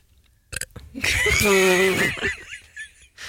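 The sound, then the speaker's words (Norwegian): A loud burp rumbles for about a second with a deep, voiced tone, preceded by a couple of short clicks and trailing off into faint mouth sounds. “Bra rap.”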